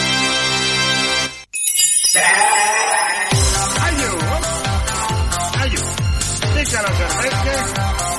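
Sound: sheep bleating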